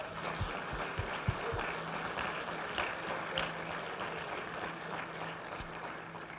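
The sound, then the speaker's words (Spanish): An audience at a church service applauds the Lord in a dense, steady wash of clapping that holds at an even level for several seconds, with a few low thumps scattered through it and no voices. “Si crees en eso, dale un fuerte aplauso al Señor.”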